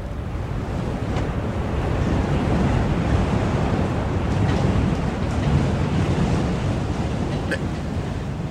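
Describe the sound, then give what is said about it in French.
Storm wind of a squall roars steadily over heavy, churning sea waves around a ship, a dense, low rumbling wash of noise that stays loud and unbroken throughout, with gusts swelling now and then. “Ce n'est qu'un petit grain. Le navire est solide.”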